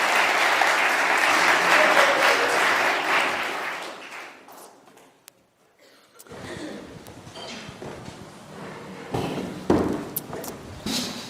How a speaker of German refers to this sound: Begrüßt doch mal mit einem ganz herzlichen Applaus hier vorne auf der Bühne.